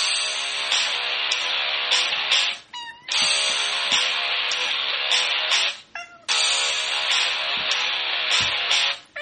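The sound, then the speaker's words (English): A cat meows in three long, drawn-out, loud cries, each lasting a couple of seconds with short pauses between, clear with no one talking. “I had to play that one for you because that's just too damn cute. I love it. It really is. … Cat”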